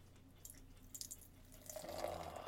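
Jet black beer with a dark khaki head poured from a 500-milliliter bottle into a glass: a few light splashes and trickles at first, then a fuller, steady gurgling pour that swells over the last second, quiet overall with no talking.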